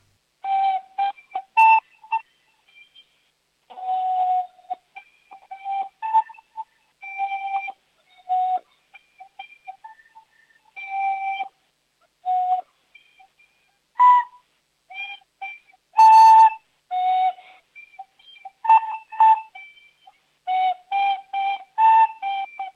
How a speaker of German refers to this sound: Hast du die Flöte bei der Hand? Kannst du uns was vorspielen? Ja. Ja, dann leg mal los. Ich bin schon sehr gespannt. Ich spiele den Hoppe Hoppe Reiter.